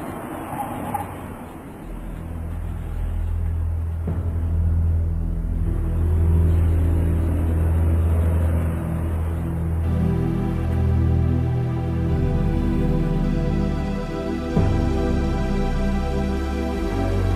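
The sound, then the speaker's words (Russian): A heavy bus engine drones steadily throughout, deep, its low rumble shifting pitch partway through as the last bus departing for Turginovo drives on. No one speaks. “Ноги как-то сами привели его на вокзал, где он едва успел на последний автобус, отправляющийся в Тургиново.”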